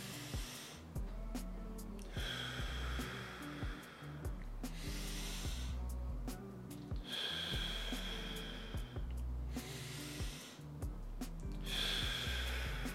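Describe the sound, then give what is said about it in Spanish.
Slow, deep abdominal breaths are drawn in and pushed out in a steady cycle. The abdomen inflates on each inhale and contracts on each exhale, and each airy breath lasts a few seconds, clear over a soft, low music bed. “Y cuando exhales, cuando inhales, el abdomen se infle. Y cuando exhales, el abdomen se contraiga y sientas cómo sale el aire. Hagámoslo juntos.”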